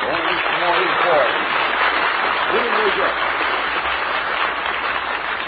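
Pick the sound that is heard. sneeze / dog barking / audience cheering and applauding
audience cheering and applauding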